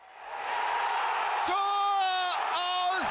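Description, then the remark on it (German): A large crowd of Hannover 96 football fans roars and cheers loudly and steadily at the promotion celebration after a draw in Sandhausen, with sustained shouted, chant-like voices rising above the dense wash of noise. “Entsprechend laut und emotional wurde es, als 96 vor knapp einer Woche beim Unentschieden in Sandhausen den letzten Schritt gemacht hat und bei der anschließenden Aufstiegsfeier.”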